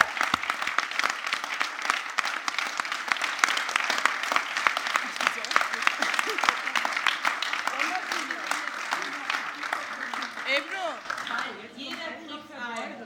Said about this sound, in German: Bitte ein extra, extra, extra Applaus